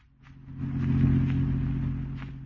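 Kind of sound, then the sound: vehicle, car driving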